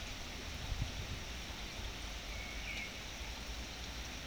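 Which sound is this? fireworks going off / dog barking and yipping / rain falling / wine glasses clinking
rain falling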